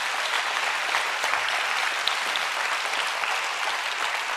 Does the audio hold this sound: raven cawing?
no